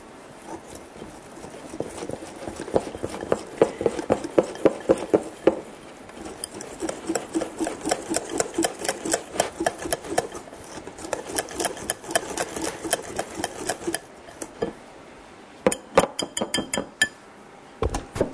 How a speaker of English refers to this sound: There we are, I've got a lovely, nice batter there for the Yorkshire pudding part of Toad in the Hole. All whisked up nicely, no lumps.